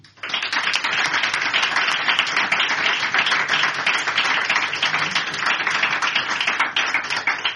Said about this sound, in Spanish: Las doy las gracias a todas y también pido un aplauso para todas ellas, porque todas ellas están también dentro de mí.